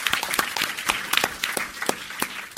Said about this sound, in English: Can we do a round of applause to the community team? Yay!